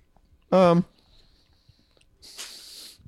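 Wet chewing and mouth sounds of someone eating a chocolate cherry candy with a thick chocolate fudge shell and a soft cherry inside, preceded by a short voiced hum; no clear words are spoken.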